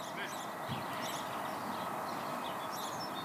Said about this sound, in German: Und dann sind dir vielleicht auch die Vögel aufgefallen. Vielleicht vorhin, als wir gesprochen haben, uns gegenseitig angeschaut haben, hast du die gar nicht gemerkt.